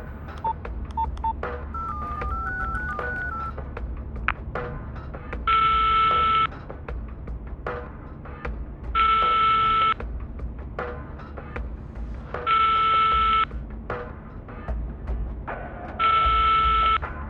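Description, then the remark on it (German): A quick run of short dialing beeps from a mobile phone calling the second number on its call list, followed by four evenly spaced ringing tones, each about a second long, over a faint low hum with no one talking. “Welche Nummer? Die zweite auf der Anrufliste.”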